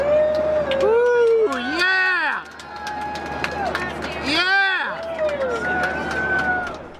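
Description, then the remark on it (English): A group of airplane passengers cheers and whoops at the end of a total solar eclipse seen from the plane, with rising, falling shouts and overlapping excited voices, lively, over a steady low cabin engine drone. “At the end of the eclipse, you can hear all the passengers cheering.”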